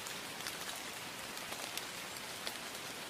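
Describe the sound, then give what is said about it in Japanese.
Steady rain falls continuously, a dense hiss of drops pattering on a surface with occasional sharper splashes standing out. No voices, just the even wash of rainfall. “雨音が好き。”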